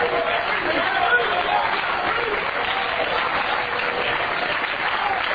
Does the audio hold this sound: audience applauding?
yes